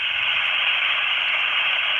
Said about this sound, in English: that's just taking a VHF radio with no signal, removing the squelch, and that's basically, that's almost white noise